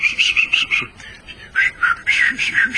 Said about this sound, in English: But whistles are there to be blown. And so as I take my dog Rex around, I give a silly whistle.